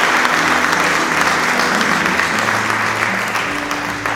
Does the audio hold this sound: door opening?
no